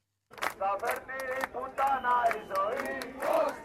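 crowd of demonstrators shouting

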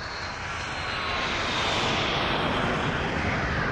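jet aircraft engine

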